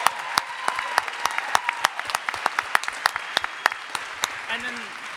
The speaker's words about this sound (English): Well done. Stand up. We will clap for you.